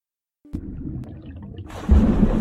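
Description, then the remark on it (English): Dolphin calls over a murky underwater rumble: a couple of sharp clicks early on, then the sound swells louder and hissier near the end, with no one talking. “What's this, Tom? It's a dolphin, Alfie.”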